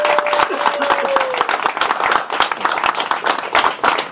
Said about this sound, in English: Let's start with some applause right away. Thank you. Thank you.